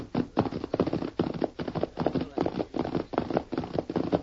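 A sorrel pony's hooves trot steadily along a hillside trail, a brisk, even clip-clop of repeated hoof falls, moderately loud, with no voices over it.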